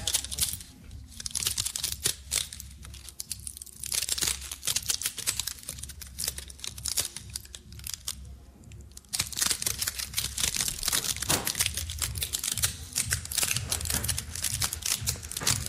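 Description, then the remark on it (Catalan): Pine cones being crushed and crackled: a dense, irregular stream of dry snaps and crunchy crackles, fairly loud, continuing throughout with a brief softer lull midway. No one speaks. “El so de la pinya fa pensar també quan estàs davant de la vora del foc, no?”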